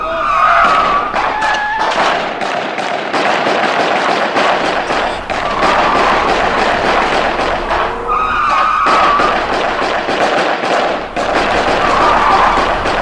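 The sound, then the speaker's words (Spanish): Rapid, repeated gunshots crack through a loud, chaotic scene like a war, with fire and things exploding, dense bursts of noise and a few high screeching tones, like tires skidding, rising over the din. “Así que rápidamente estoy aquí en la pieza mudando a la guagua cuando siento los disparos.”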